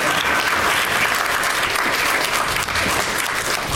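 Sustained, dense applause from a large San Antonio audience as three guests stroll onto the stage, a steady wash of clapping that stays loud and even throughout with no voices standing out.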